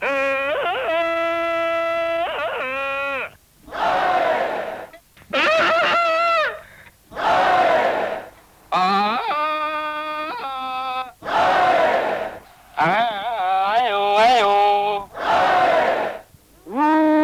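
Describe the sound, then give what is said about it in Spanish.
A loud Tarzan yell in a Spanish-made version, warbling and flipping sharply between high and low pitches, repeats several times over about seventeen seconds, trading off with bursts of rough, roaring crowd-like noise. “Les presentamos el grito de Tarzán con el sello de Made in Spain.”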